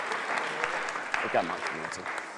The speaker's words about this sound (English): So we give them a big welcome. Do you want to give them a round of applause?